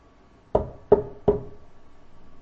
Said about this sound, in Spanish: Tocaron la puerta. Y llamando, preguntaron si moraba allí un Simón que tenía por sobrenombre Pedro.